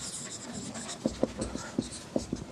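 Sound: writing on paper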